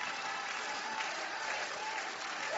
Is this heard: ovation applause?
yes